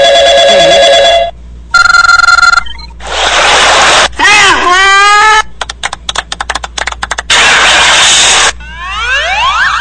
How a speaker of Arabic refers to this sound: لكن أفضل الأصوات زي هذا التليفون هذا.